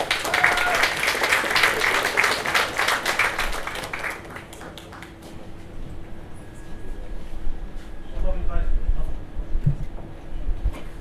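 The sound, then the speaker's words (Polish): Audience applause at the official construction-start ceremony of P3 Logistic Parks in Poland, welcoming the company's managing director, dense and fairly loud for about four seconds, then thinning into scattered claps that fade out beneath low background noise and faint murmuring. “Wielkie brawa!”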